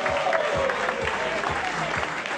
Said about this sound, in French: Et le vainqueur donc du point chaud Simco et l'équipage NL Productions. Qu'on applaudit bien fort, s'il vous plaît.